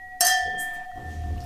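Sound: wine glasses clinking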